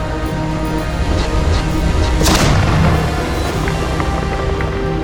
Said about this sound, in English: how many times must I remind you not to fly through explosions? It doesn't look cool at all, and it endangers the ship!